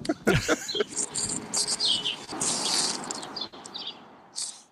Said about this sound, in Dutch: Hoorden jullie nog de duiven of niet? Ja. Dus dit zijn de vogeltjes van Broadway. De vogeltjes van Broadway. Ik hoor nooit vogeltjes.